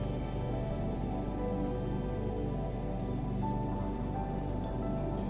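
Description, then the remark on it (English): Steady, dense rainfall hisses and patters across the whole stretch, holding at an even, moderate level with no voices or other sounds. “The glitter rain is beginning to fade.”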